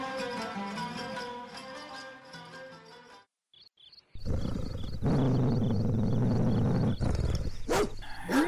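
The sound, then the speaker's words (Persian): After a short musical passage and a brief pause, a dog barks and snarls loudly, blocking a man's path, continuing for several seconds over a steady rasping background. “هنوز خیلی دور نشده بود که سگی پارس کنان راه را برو گرفت.”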